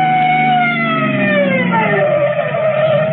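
police car siren approaching

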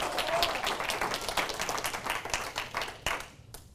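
audience clapping hands

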